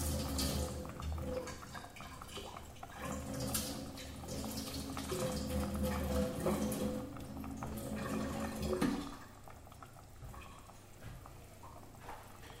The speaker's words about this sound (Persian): حالا برنجا آبی که داشت داره اضافه برنجا میریزم.